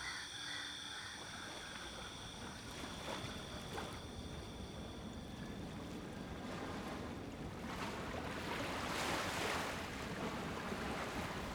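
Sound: ocean waves and surf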